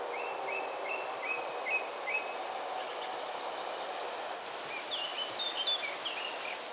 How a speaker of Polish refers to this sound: Oprócz świerszczy, śpiewak powtarza swoje sylaby, drozd.